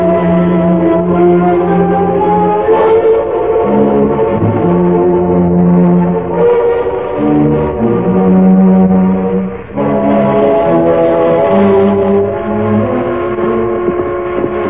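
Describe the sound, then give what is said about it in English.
A loud whistle from the eastbound train sounds in long, steady chord-like blasts, its pitches shifting every second or so across about fifteen seconds, with no voices. “That's her whistling.”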